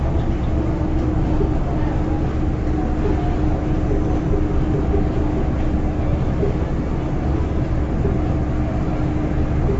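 A steady rumble of a passenger train carriage in motion as it approaches Ping'an station, a dense low-frequency roar with a faint droning hum running evenly throughout, no breaks or distinct clanks.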